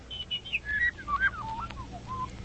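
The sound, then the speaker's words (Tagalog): Birds singing in clear, whistled phrases, with notes that slide and fall in pitch and repeat quickly over a soft, steady low background hum. “Tanawa ang matahom nga kabulakan, kag pamati ang kapispisan nga nagaamba.”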